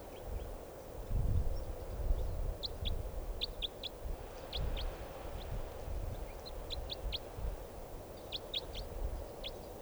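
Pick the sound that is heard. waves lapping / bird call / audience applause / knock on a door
bird call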